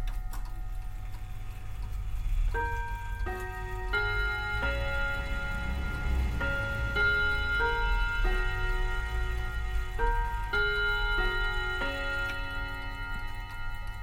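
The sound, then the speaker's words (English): A clock chimes the three quarters: twelve ringing bell-like notes in three phrases of four, pausing between groups, over a steady low mechanical hum. “And that does the full chime an hour.”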